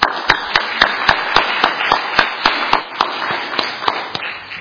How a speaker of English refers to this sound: He organized it and helped us get our ducks in a row, so I want to thank you and ask for a round of applause.